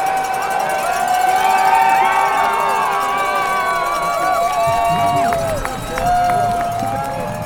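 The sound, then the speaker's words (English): A loud, sustained roar of a cheering crowd at a skating race as a racer speeds down a 600-foot drop, smashing into plastic gates, to the finish line, with many overlapping shouts and high whistling cries that stay strong throughout before surging again near the end. “The crowd gets louder and louder.”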